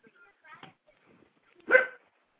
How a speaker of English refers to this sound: Of course, and right as Lisa leaves, my dog starts barking.